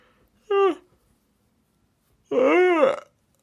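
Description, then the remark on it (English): A person yawns aloud: a brief voiced sound, a pause, then a longer drawn-out vocal yawn whose pitch rises and falls, against a quiet background. “That's me yawning, by the way.”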